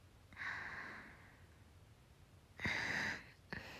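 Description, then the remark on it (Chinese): Heavy, airy breathing with no talking: a long raspy breath, a pause, then a second forceful one that starts sharply, and a third cut short at the end. “可是，你的呼吸声真的很重哎”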